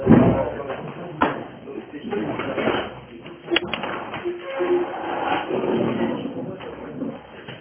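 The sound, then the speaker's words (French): A door slams shut with a sharp thud as a latecomer enters a Torah class, followed a couple of seconds later by a second bang, over a steady murmur of voices and room noise. “Je vous le répète, je vais trouver la clé de cette porte.”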